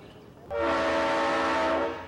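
A loud, sustained train horn blast sounds for about a second and a half over the low rumble of a train, rising abruptly and then tapering off.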